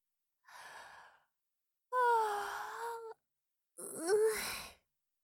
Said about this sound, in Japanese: このまま力を抜いてたら本当に眠っちゃうかも。ほら、なんだか眠くてあくびが出てきちゃう。